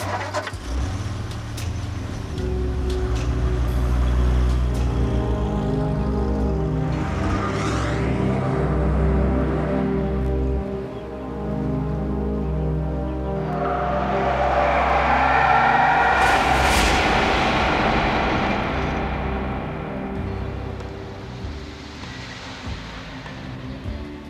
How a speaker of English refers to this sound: He's done a fine job on the car. Let's see what it'll do on the open road.